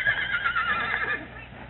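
A horse whinnies once, loud, its shrill, quavering call wavering for about a second before trailing off. No one speaks over it.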